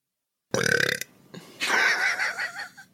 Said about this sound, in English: That sounds like a canned sound effect burp.